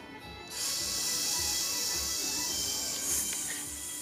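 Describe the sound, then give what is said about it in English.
A person makes a long, steady hissing sound like a snake, sustained for several seconds with a slight swell near the end, and no talking. “You sound like a snake.”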